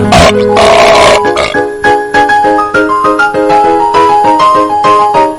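A loud, rough burp bursts out at the start, lasting about a second, followed by a bright, tinkling musical jingle with steady melodic notes and no talking.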